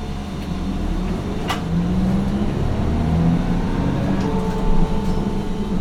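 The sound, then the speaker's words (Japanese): A bus engine rumbles steadily as the bus departs from a stop, its low drone rising in pitch as the vehicle accelerates away, with a brief clank and faint hiss near the start. “はい、発車します。”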